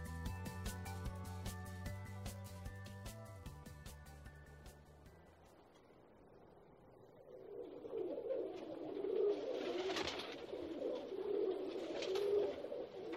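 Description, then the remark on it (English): After a short musical intro fades, city pigeons (rock doves) coo in low, throaty murmurs, a steady burbling chorus with soft rustling and wing sounds mixed in. “City birds, pigeons, rats with wings, whatever you call them, their coos and presence is well known.”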